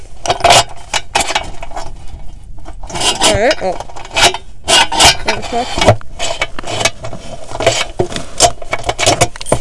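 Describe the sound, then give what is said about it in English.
Keys jangle and scrape in a lock as someone locks up, fairly loud, with repeated metallic rattles and clicks throughout, while a voice talks intermittently over the fumbling. “Why are we bad at keys?”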